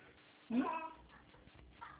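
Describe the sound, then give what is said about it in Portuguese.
A single short cat meow comes from a television, thin and slightly muffled, rising out of a low background hum before fading into quiet room noise. “É o gatinho?”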